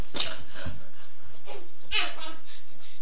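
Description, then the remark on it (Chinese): A young child imitates a tiger's growl with several short, rough vocal bursts spaced unevenly, with brief quiet gaps between them. “是不是你是小狗狗哟？我是老虎。”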